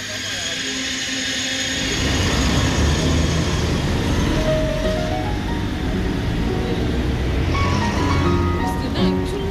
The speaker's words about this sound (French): Gare de Nice, jour de départ en vacances, pas de présence policière particulière.